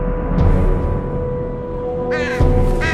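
Two ravens give harsh, raspy caws as they fly off and swoop down through a mansion's chimney, a brief call early on and two louder croaking bursts near the end, over a steady low rumble and hum.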